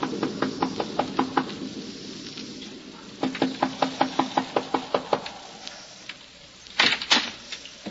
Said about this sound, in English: It is early in the evening, but the sky over Westchester County is dark and signals the approach of a storm as a solitary traveler makes his way to the Wharton farmhouse, a lonely cottage overlooking the valley. He knocks at the door.